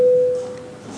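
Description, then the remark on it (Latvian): A single short electronic parliamentary voting bell sounds, called before a vote on a bill amending the Latgale Special Economic Zone law in its second reading; a clear steady tone lasting under half a second, then gives way to quiet ambience. “Lūdzu zvanu, balsosim par likumprojektu grozījumu Latgales speciālās ekonomiskās zonas likumā otrajā lasījumā.”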